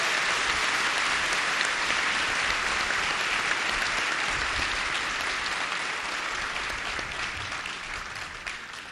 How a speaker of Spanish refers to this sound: Que los colombianos le demos un aplauso al general Quiñones.